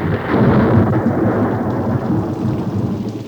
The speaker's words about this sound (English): As we prayed and waited, about mid-afternoon, heavy, dark clouds came over the hilltops, and from them came pouring down the heaviest rain I have ever seen.